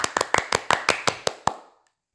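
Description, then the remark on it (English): A short burst of applause at a school for a group of students: about nine crisp, separate hand claps in a quick, slightly uneven rhythm, each ringing briefly before the sound fades out. No one speaks. “This alone deserves a huge round of applause.”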